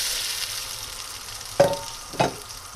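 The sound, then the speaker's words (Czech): A steady, hissing sizzle of fallow deer meat rolls (závitky) browning on all sides in a hot pan, broken by two sharper crackling bursts, as if the pieces are stirred or turned. No one speaks. “No, aby byly opečeny, aby se zatáhly do hněda trošku.”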